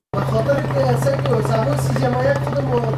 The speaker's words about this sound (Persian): این صدای قلیان یا چلم است که بخشی از جوانان در این کشور از آن استفاده می کنند.